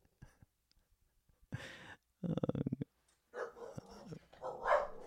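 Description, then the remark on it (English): A dog barks in a few bursts: a short yelp, then a rapid volley of sharp barks, followed by longer, whinier barking. It sounds fairly quiet, with no talking. “Oh, that means the podcast is over. It's gone to the dogs.”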